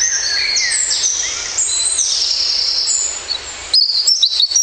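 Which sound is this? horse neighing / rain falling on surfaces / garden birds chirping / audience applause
garden birds chirping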